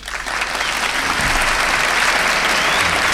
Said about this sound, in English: And I'd like for each and everyone to give him a very nice round of applause. He is the president of the Hot Club de France, Monsieur Hugh Panassé.